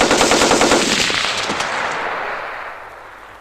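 Rapid bursts of machine gun fire rattle out in a fast, dense rhythm, loud and sharp at first, then trailing into a fading, echoing wash with no voices.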